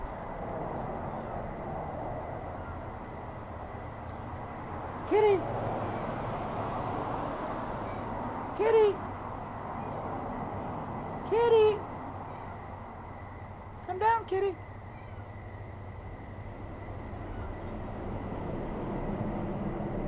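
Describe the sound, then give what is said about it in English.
A neighborhood cat stuck up in a tree outside a house meows four times at roughly three-second intervals around 1:30 in the morning, the calls moderately faint against a steady outdoor background hiss, with no one talking. “So that's a, I don't know if you could hear that or not, but that's the cat up in the tree.”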